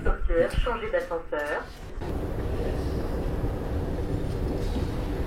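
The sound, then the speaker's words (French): A voice speaks briefly at the start, then the steady, reverberant rumble of the ticket hall of Jean Jaurès metro station in Toulouse, a line A connection, takes over, a continuous wash of machinery and crowd noise. “Station Jean Jaurès. Correspondance, ligne A. Salle des billets.”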